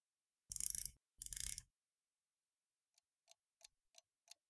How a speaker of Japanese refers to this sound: さあ、もう一回だ。時計の秒針が回り始める。カチカチと音を立てて回り始める。三つ数えて爪を鳴らしたら、この時計の音も気持ちよくなってしまうよ。